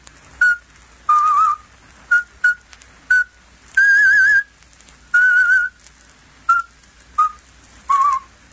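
A Slavic radio presenter whistles a traditional folk song alone at the start of his talk, in a broadcast aimed at southeastern Europe, in a clear string of short notes mixed with a few longer held ones. The melody shifts in pitch, with brief pauses between phrases.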